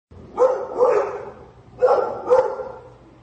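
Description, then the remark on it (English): A dog barks four times, in two quick pairs with a short pause between, loud, with no voices. “Well, man's best friend there”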